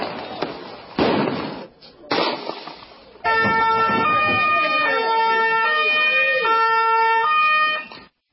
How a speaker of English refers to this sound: Take a listen to what it sounded like with the screams and I think some of the other things, the sirens that you can catch in the background.